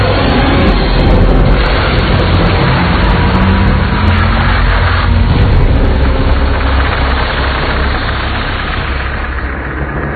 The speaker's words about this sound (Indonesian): Aku mengemudikan mobilku dengan kecepatan 120 km/jam saat itu.